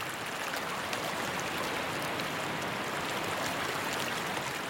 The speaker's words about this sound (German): Du spürst, dass dieses Wasser aus einer magischen, heilenden Quelle kommt. Es fließt von dem Wasserfall sanft in den kleinen See.